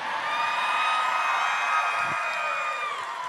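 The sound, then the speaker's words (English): A live-show audience applauds and cheers steadily for a guest cosplaying as the Flush, with dense clapping mixed with whoops and high shouts, holding at a loud, even level throughout. “And let's give another round of applause for our dad who's cosplaying as the Flush tonight.”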